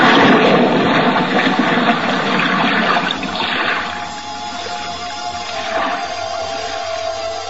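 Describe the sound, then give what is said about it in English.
A diver with compact equipment goes overboard from a ship and plunges into the sea with a loud rush of churning water that settles after a few seconds into a muffled, bubbling underwater wash over a low steady hum. “Now, hoist you up and overboard and dive with your compact equipment well in hand into the sea and under it.”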